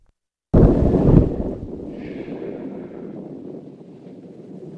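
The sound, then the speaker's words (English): Thunder in a film scene at a grave, where a woman kneels praying, breaks suddenly after a brief silence: a loud deep crack that settles into a long rolling rumble, slowly fading over several seconds with no voices. “So let's go back to the beginning of the scene where it's starting to thunder and she's kneeling at the grave praying.”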